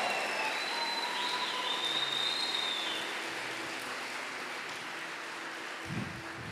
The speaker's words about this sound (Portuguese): Aplaude, aplaude a misericórdia de Deus.